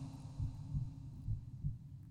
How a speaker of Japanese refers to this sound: 聞こえる？わかるでしょ？私の心臓の鼓動、私もさっきから聞こえてるよ。